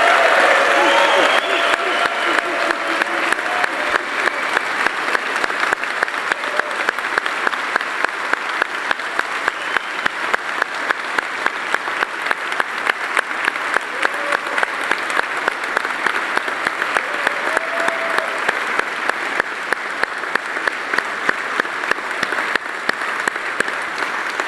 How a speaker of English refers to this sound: I want you to give a huge applaud to all of these women that we have in our church family, both here and at Northmont. Guys, would you do that? Let's just affirm them here this morning.